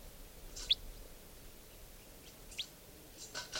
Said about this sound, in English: Wild type 4 birds coming in. Wild type 4 bird came in and now it's giving song. And it's in the trees above here somewhere.